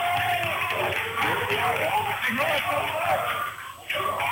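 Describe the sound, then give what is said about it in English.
A dense basketball crowd roars and shouts continuously, loud, with overlapping voices rising in protest after a charging foul is drawn, and a brief dip near the end. “A lot of barking from the Prentice crowd.”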